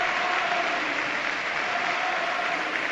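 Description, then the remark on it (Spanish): A stadium crowd at Anoeta applauding in a 10th-minute tribute to Xavi Prieto, fans standing and holding up cards, in a steady, dense roar of clapping that holds at an even, loud level throughout, with no voices standing out. “La gente aplaude, se pone en alto, muestra cartulinas de Xavi Prieto.”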